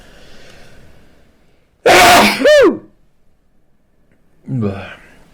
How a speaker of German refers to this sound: Das war bei dem Switch zwischen H264 und H265 und jetzt muss ich niesen.